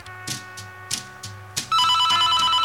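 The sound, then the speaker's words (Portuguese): A telephone rings with repeated bursts, first a few spaced trills over a low musical bed, then a loud continuous electronic ringing that fills the rest. “Não enxergo nada, mas ouço um telefone ao fundo.”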